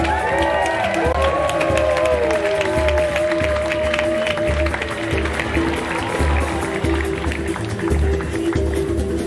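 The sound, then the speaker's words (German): A crowd applauds and cheers without a break to cheer on 'the eel' (der Aal): dense clapping mixed with shouts and a few rising, wavering whistles, holding loud and steady for about nine seconds. “Aber guck mal, wir können ja mal, vielleicht hört der Aal den Applaus von unten, wenn wir ihn anfeuern.”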